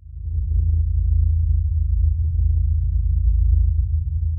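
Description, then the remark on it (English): A deep, steady low-frequency hum, a recording of the Auckland hum in New Zealand collected by Dr. Tom Moyer, drones continuously for a few seconds at an even level, with faint flickering traces of higher sound above it and no voices. “Tom Moyer in New Zealand has done some research on the Auckland hum and has collected an actual audio recording, of which I'll now play a few seconds.”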